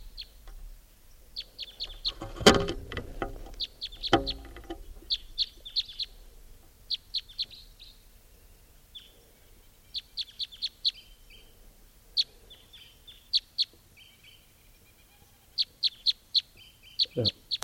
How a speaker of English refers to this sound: type 3 bird here.